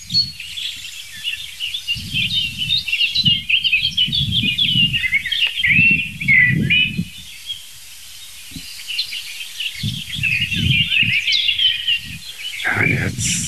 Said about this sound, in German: Also es ist nichts Heftiges zu hören. Es gab jetzt ein paar, ich würde mal sagen, Warnrufe kann man die noch nicht mal nennen. Ein paar Schimpfer von der Singdrossel.